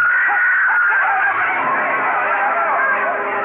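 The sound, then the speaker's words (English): A woman screams loudly and without pause for several seconds, her shrill, wavering cry piercing, with a faint murmur of other voices blurred beneath it, at a wedding as the groom collapses at her feet. “Yu Lang and the groom stiffened and crumpled at the screaming Nanhua's feet.”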